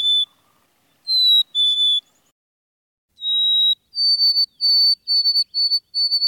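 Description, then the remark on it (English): A black-capped chickadee sings its clear, whistled two-note "hey sweetie" song, a higher note sliding to a lower one, repeated in the quiet, followed by a run of quick, evenly spaced high whistles. “Most people know the black-capped chickadee's chickadee-dee-dee call, but not so many recognize its actual song, which I transcribe as Hey Sweetie.”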